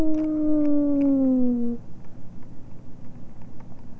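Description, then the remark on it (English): A voice imitates a fire truck siren with one long, loud 'woo' that slides slowly downward in pitch for under two seconds, followed by quieter, faint rhythmic background sounds. “How about the fire truck?”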